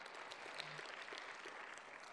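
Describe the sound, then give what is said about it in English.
A crowd claps steadily, a dense wash of many hands applauding together without pause, moderately loud and sustained. “Let's give her another hand. Applause.”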